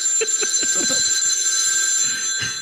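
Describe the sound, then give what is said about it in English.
The Celebrity Death Phone rings with a steady, bright electronic tone that holds through the whole moment, fairly loud, with a few soft knocks and clatter underneath. “here for the Celebrity Death Phone.”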